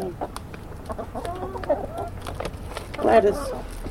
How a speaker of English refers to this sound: The chickens do not seem at all afraid of humans, and they eat out of Miss V's hand.